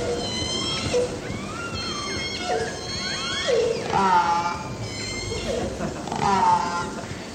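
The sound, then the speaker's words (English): Chattering calls of salmon-eating resident killer whales, a busy overlapping series of whistles and pulsed squeals from several animals, rising and falling in pitch over a steady underwater hiss. “So here's a resident whale's vocalization.”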